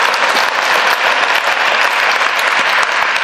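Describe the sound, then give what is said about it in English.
A morning audience at the Boston Book Festival claps steadily for the festival, a dense, even wash of many hands sustained at a fairly loud level for the whole stretch without pause or voices. “So a little applause for the Book Festival for all they're giving you this morning and will give you today.”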